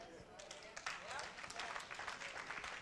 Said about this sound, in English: I got three claps.